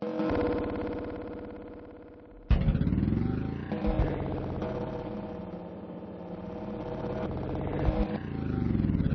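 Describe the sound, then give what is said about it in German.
The engine of an old car, driven slowly through thickening fog, rumbles with a steady, droning, dense, buzzing harmonic tone. Partway through it jumps abruptly to a louder, rougher pitch, then chugs on evenly. No voices. “Ich muss langsam fahren, aber das Auto geht sowieso nicht schnell. Es ist alt, dauernd muss man was richten.”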